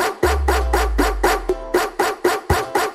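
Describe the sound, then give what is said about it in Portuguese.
A dog barks in a fast, steady series of loud, evenly spaced barks, about nine in under three seconds, over a deep, sustained bass hum. “Cuidado, cuidado com o cachorrão!”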